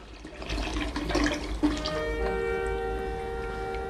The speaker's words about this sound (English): Lohan fills a sink with clean water and gingerly places his bloody hands into it, wincing with pain.